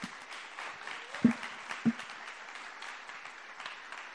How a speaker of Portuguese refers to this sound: Bom, gente, eu queria que vocês aplaudissem mais uma vez